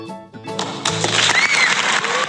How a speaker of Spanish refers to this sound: Fuertísimo el aplauso.